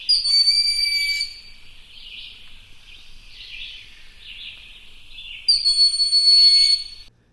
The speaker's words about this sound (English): Gray squirrels and forest birds use this area, and you may hear the high-pitched scream of a broad-winged hawk that lives here.